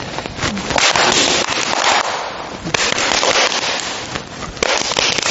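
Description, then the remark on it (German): A loud, sustained crash of thunder, crackling and roaring without a break for several seconds, with a few sharper bursts standing out and no voices over it. “Und es machte einen Donnerkrach.”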